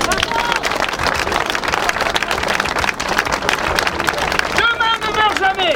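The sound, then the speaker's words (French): A dense burst of audience applause, many hands clapping steadily and fairly loudly for several seconds, with a voice briefly rising above the clapping near the end, applauding the opening of a new altiport, the only one in the Pyrenees. “Vous aviez déjà un paysage extraordinaire, il vous manquait un Altiport, vous l'avez fait, c'est très bien, on doit vous applaudir.”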